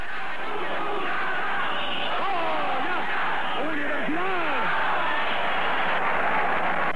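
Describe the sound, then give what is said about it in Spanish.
A large crowd of students at UNAM roars with a steady wash of shouting, whistling and booing, drowning out President Echeverría's speech at the opening of courses, as loud drawn-out jeers and boos rise above the din in the middle, the whole mass of voices continuous throughout. “Gritos, chiflidos y abucheos de un sector del estudiantado opacaron las palabras del discurso de Echeverría.”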